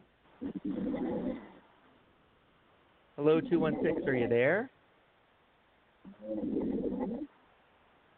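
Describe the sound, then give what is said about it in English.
Two rough, rumbling snore-like breaths come through a narrow, tinny phone line from a caller on hold who seems to have fallen asleep, each about a second long, with a person speaking briefly between them. “I think it sounds like they're snoring. I think they fell asleep.”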